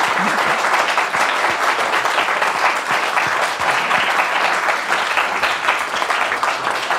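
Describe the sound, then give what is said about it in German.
Sustained applause from an audience, a dense wash of many hands clapping at steady loudness for several seconds with no voices standing out. “Es gibt immer, genau, machen wir mal einen kleinen Applaus zwischendurch.”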